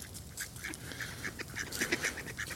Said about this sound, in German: Und ich mein Gott, da kommen Enten auf mich zu. Hier kommen, das ist unheimlich. Das ist wirklich unheimlich. Das ist, ich muss ein Foto davon machen. Ich werde bedroht. Ich fühle mich bedroht. Kommen Enten.